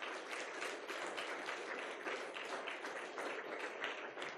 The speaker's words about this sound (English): And I don't need applause. It's not about me.